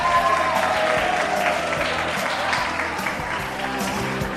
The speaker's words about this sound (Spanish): ¡Un aplauso!